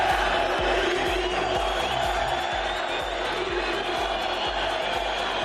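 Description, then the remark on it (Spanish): A large stadium crowd at the Ramón Sánchez Pizjuán in Seville roars and shouts in a dense, continuous wall of noise, calling for Sevilla president Pepe Castro's resignation, with shrill whistles at the directors' box, the players and coach Machín streaking through and a steady rhythmic pulse of chanting underneath. “A gritos de Pepe Castro, dimisión, pitos para el palco, pitos para los jugadores, silbidos también para Machín.”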